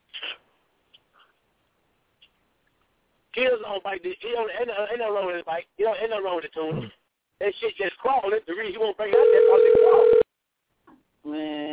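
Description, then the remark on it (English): A phone call is dialed and connects, with muffled, tinny voice sounds over the line followed by a steady, loud electronic beep tone lasting about a second, then brief faint noises. “Let me see if I can patch in. Hold for 1 second.”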